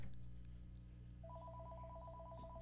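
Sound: telephone ringing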